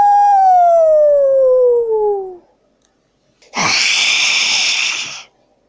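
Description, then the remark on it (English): A dog lets out a single drawn-out howl that slides steadily downward in pitch, fades, and after a short pause a harsh, rough, loud burst of noise follows. “And on the way, learn how to bark like a real dog.”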